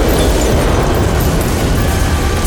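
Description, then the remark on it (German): An explosion in an apartment blows out the kitchen window facing the street: a loud, sustained explosive roar fills the whole stretch, a dense rumbling blast of noise that stays at full force throughout, with no voices present. “Der Druck der Explosion zerfetzte das Küchenfenster, das nach vorn zur Straße lag, aber auch den Flur, die Toiletten und selbst das Schlafzimmer auf der Rückseite.”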